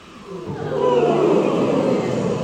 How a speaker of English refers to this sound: Lovely, nice big indulgent yawn, please.